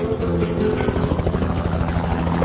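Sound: helicopter flying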